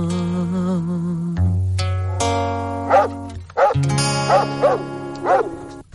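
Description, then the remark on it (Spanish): A string of five or so dog barks lands in rhythm over a sustained musical backing in a well-known song, the barks loud and punchy, arriving in quick succession through the second half. “La conoce todo el mundo, es la canción de los perracos.”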